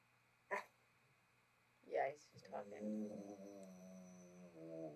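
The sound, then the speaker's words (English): A Rottweiler named Will, known as the Talking Rottweiler, gives two short, gruff barks, then breaks into a drawn-out, warbling moan that rises and falls like it is trying to talk, clear. “This one, Will the Talking Rottweiler.”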